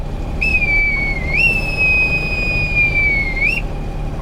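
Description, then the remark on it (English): A bosun's whistle call sounds alone: a single shrill, piercing tone that steps up in pitch, holds steady for a couple of seconds, then flicks upward at the end over low background rumble. “You've heard me use the bosun's whistle before, but you may be wondering what the heck it is.”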